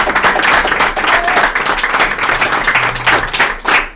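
An audience that includes teachers breaks into loud, steady applause in honour of don Claudio Cruz Ayala, who would have turned 72 that day. A dense wash of many hands clapping holds for the whole stretch and swells briefly near the end, with no speech over it.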